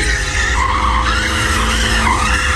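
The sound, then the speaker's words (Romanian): A car does circles and drifts during a celebration, tires skidding in a continuous loud screech, its pitch wavering up and down over a steady engine roar. “Nu știu, doamne, ce aici se fac cerculețe, drifturi.”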